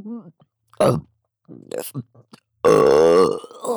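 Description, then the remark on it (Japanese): A long, loud, drawn-out burp rumbles after a few short breathy vocal sounds and gasps. “また出る。ゲップが出ちゃう。”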